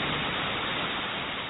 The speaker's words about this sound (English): In the rain. The rain.